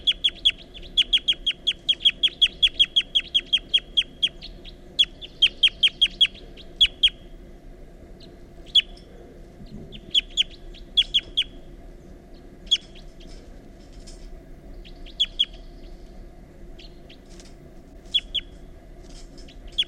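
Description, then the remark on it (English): A wild bird gives very rapid flight calls, a series of sharp, high calls in quick bursts, dense at first and then more scattered, clear over a low steady background rumble. “So recording, this is bird 354 during very rapid flight calls.”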